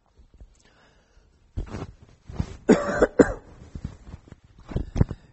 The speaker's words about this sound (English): and then we also came back sick, all of us. So if I cough and everything, I apologize for that.